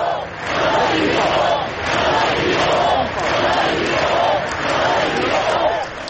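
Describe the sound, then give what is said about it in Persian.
A crowd of thousands in the main streets of Barcelona, Spain, with the Spanish prime minister and king, claps steadily while chanting "we are not afraid" in unison, the rhythmic chant rising and falling in repeated waves, loud and dense throughout. “هزاران نفر در خیابان‌های اصلی بارسلون گرد هم آمدند و در کنار نخست وزیر و پادشاه اسپانیا یک دقیقه سکوت کردند و سپس با دست زدن فریاد کشیدند که ما نمی ترسیم.”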